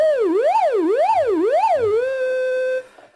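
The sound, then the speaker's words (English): The oscillator of an analog synthesizer produces a buzzy tone that sweeps up and down in pitch about four times like a siren, then settles into a steady, held note for under a second before abruptly stopping. “An oscillator produces a steady pitch sound.”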